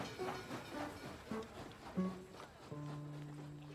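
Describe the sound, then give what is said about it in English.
A train travelling from Buffalo to New York rumbles and clatters with steady rhythmic knocks over the rails, then a sustained low whistle-like tone sets in toward the end. No one speaks. “There, she boarded a train to New York with $50 sewn into her underwear.”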